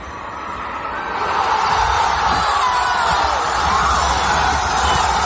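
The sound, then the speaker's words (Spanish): A huge crowd of thousands roars in celebration in a street leading to the Obelisco in central Buenos Aires, Argentina, a dense, sustained wall of cheering and shouting that swells after the first second and stays loud and continuous throughout. “Del silencio más absoluto a esta explosión de alegría.”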